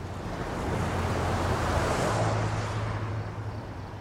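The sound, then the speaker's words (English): A steady wash of passing traffic at night, its broad whooshing roar swelling and easing like ocean surf, with a low engine hum underneath and no voices. “She's talking about this kind of magical place as you hear traffic.”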